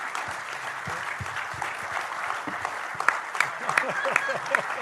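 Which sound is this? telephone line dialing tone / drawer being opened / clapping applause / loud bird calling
clapping applause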